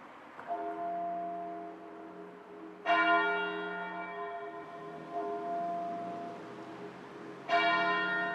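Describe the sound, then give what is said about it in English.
Muffled church bells toll slowly at 12 noon in Marlow, an English town west of London on the River Thames: about four strikes spaced a couple of seconds apart, each one ringing on and overlapping the next, with no voices present. “At 12 noon precisely, muffled bells rang out across Britain.”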